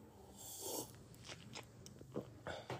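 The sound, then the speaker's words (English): Someone sips coffee, a handful of short, soft slurps and wet mouth noises spaced unevenly over a few seconds, with no talking. “Take a sip of coffee first.”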